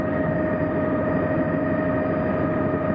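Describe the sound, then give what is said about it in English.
A helicopter drones steadily and loudly throughout, its heavy engine hum and low, rapid rotor chop holding constant with no voices present, flying near brent geese by a lake as people approach a net. “I can see Vincent taking photographs of the brent and the helicopter as we approach the net.”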